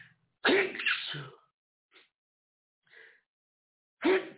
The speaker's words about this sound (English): Sorry, people, I had a little allergy sneeze there. I apologize for sneezing on mic, but I couldn't help it.